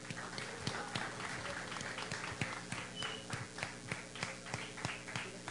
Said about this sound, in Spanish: Los recibimos con un fuerte aplauso.